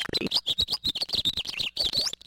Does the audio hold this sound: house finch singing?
yes